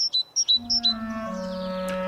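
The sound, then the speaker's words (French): Great tits and blue tits chirping: three bright, quick two-note calls in an even rhythm, clear, before a low steady droning tone swells in underneath and carries on alone. “Les voleurs de crème étaient des oiseaux, des mésanges charbonnières et des mésanges bleus, ces mésanges multicolores avec leur couvre-chef bleu, leur plastron de plumes jaunes, leur face blanche et leur masque noir de voleur sur les yeux.”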